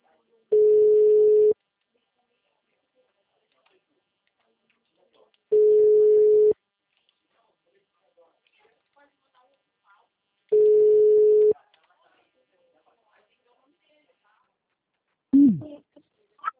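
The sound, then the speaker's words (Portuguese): A steady telephone busy tone after a dropped call sounds three times, each a low, even beep about a second long, separated by long silences. A brief voice is heard at the very end. “A ligação caiu, né?”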